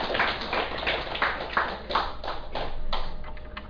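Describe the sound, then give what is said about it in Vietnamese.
An audience applauds at the introduction of a Buddhist dharma talk, a dense wash of clapping with several sharper individual claps standing out in a loose rhythm, holding steady for a few seconds before tapering off. “Thì quý vị vỗ cho một tràng vỗ tay.”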